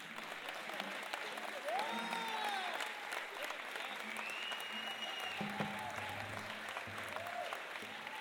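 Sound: audience applause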